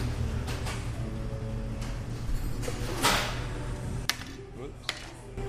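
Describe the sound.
A sign topples over with a brief, scraping clatter, followed by a couple of sharp knocks, set against a steady low hum and faint background voices in a busy shop.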